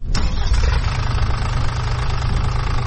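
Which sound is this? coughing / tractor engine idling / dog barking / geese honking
tractor engine idling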